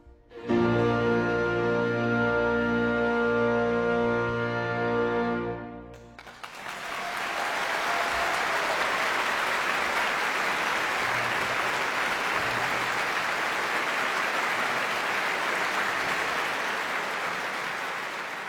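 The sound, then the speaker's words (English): A sustained piano chord rings out and fades, then the audience at Leeds Town Hall, at the Leeds International Piano Competition 2015, breaks into loud, steady applause for the winner that continues evenly to the end. “As the applause continues, I'll say goodbye from the Leeds Town Hall, and we'll just remind ourselves of that winning performance.”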